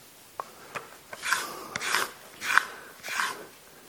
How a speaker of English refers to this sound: And after he was squatting down on the toilet, that's when he heard. How can it sound? Someone was scratching on the door.